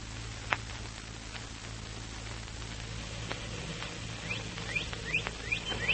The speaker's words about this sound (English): Birds are waking up